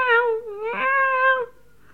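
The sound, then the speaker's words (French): A cat gives one long, drawn-out meow that rises, dips and wavers in pitch for about a second and a half, fairly loud, followed by quiet. “Elle parlait à son chat. Alors, le chat miaudait.”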